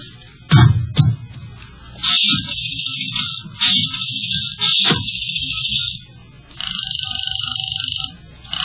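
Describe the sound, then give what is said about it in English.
A couple of sharp clicks as a borrowed phone is picked up, then a series of high electronic tones, dialing followed by ringing bursts, clear with no one speaking. “Mind if I use your phone? Yeah, go ahead.”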